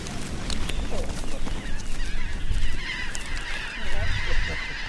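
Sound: flock of birds calling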